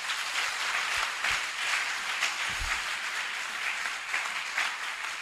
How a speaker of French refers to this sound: Quelqu'un peut me donner une acclamation d'audace divine?